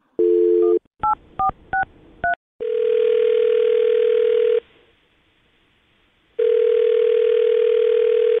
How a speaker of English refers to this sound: Well, we'll call his phone number right now and see if we can get him on the phone, okay?